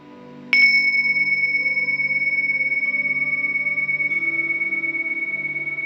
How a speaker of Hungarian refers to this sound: Vegyél egy mély lélegzetet, és ahogy kifolyod a szádon a feszültségeket, engedd be a csengő hangját.